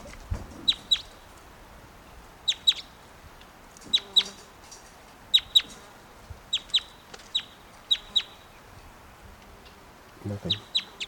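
A bird, lot 710 at an auction, clucks repeatedly in sharp, high-pitched bursts, often in quick pairs, recurring every second or so over a low background murmur, with a brief rumble of voices near the end.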